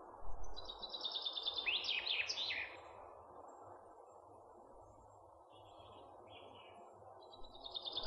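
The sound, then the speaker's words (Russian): A common chaffinch sings a bright phrase of rapid notes that tumbles into a flourish, followed by fainter short song snatches, over a steady low rushing background. “Это поет зяблик.”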